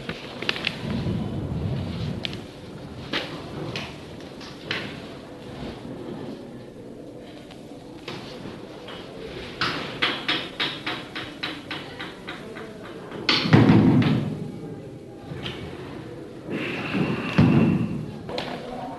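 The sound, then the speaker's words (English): Repeated thuds and rattling knocks come in uneven bursts as someone struggles to open a door, pushing and jiggling it. A few heavier low bangs stand out near the end, moderately loud. “You can open the door.”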